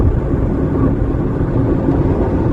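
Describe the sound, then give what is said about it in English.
A car driving at a steady speed of about 50 miles an hour in Iowa, 36 miles from the Nebraska border, its engine and road noise forming a continuous low rumble that stays loud throughout, with no voices. “The Soulard at the wheel. A questionable thing at best, but it hasn't gone wrong so far”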